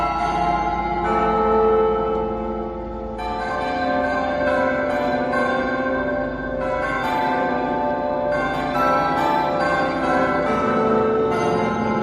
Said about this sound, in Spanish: Mira, quiero que escuches atentamente este sonido. Son las campanas del Ayuntamiento de Zamora.